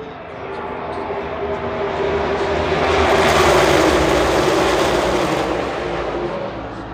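A loud, roaring rush of stock race car engines on lap 11 of a race, with the 20 car of Christopher Bell in the lead, swells as the cars approach, peaks, then fades slightly as they pass, with a continuous dense mechanical drone throughout.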